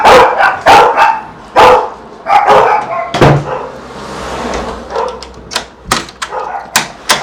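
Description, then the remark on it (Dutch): Several dogs at a house bark in quick, overlapping bursts as a visitor rings the doorbell, sounding slightly muffled from behind the closed door, with a few sharper knocks or clatters mixed in. “Ze had me al wel gewaarschuwd dat er honden zijn. Oh, ik hoor ze.”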